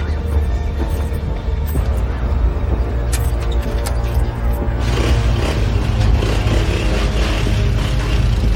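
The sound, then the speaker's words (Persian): A motorcycle engine rumbles steadily as the motorcycle is ridden out of a yard, growing a little rougher and louder about halfway through, with a continuous low drone throughout and no clear fade as it pulls away. “موتورشو تو حیاط سوار میشه میره بیرون”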